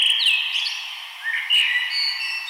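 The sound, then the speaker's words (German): A blackbird sings a clear, fluting phrase of whistled notes that rise and fall, fairly loud, with no voices or other sounds around it. “Wir können zum Beispiel sehen, dass die Amsel, ein Waldvogel, der vorher relativ selten war in die Städte, sehr häufig geworden.”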